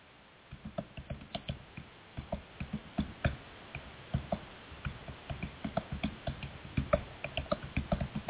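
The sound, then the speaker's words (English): Steady, fast typing on a computer keyboard fills the whole stretch, a run of crisp, irregular key clicks, fairly quiet, with no one speaking over it. “I go, you're typing. You got dead air.”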